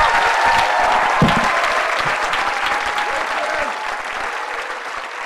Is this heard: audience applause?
yes